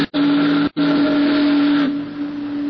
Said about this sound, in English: The Missouri Queen steamed majestically down the broad channel of the river. It was a night that was dark and moonless. The big boat's doleful whistle and the rhythmic churning of her huge stern wheel were the only audible sounds.